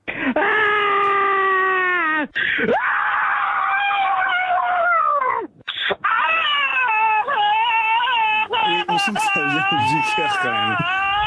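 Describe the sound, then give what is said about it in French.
Loud, sustained human screams and wails left on the Just Scream answering machine, which records people's screams to release stress built up during the pandemic: long quavering high-pitched cries breaking into shorter yelps and moans; the sound is band-limited and thin, like a recording played over a phone line. “vous avez plus qu'à lâcher votre cri le plus primal, le plus viscéral”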